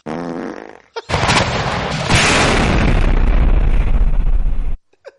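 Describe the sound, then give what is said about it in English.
A long, rolling explosion roars loudly for several seconds, a dense sustained rumble that swells and then cuts off abruptly, preceded by a brief voice. “That's like a lingering one, that last one. It just rolls on. We've never gotten that far in the explosion clip.”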